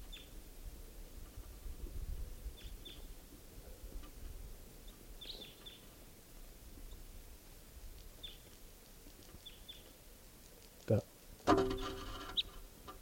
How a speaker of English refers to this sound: Hear the birds.